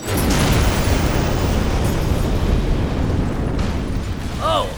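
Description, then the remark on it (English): A meteorite crashing down near the Ladyfinger nuclear plant: a loud, sustained roaring rumble fills the whole stretch without letup, and a brief warbling whistle-like tone rises near the end. “As it turns out, the flash of light was actually from a meteorite crashing down near the Ladyfinger nuclear plant.”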